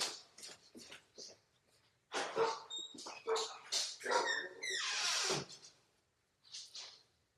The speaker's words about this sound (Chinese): 原来是越南白来的，然后四个狗对他义愤填膺，满腔怒火的冲过去了，凶巴巴的，四个都凶巴巴。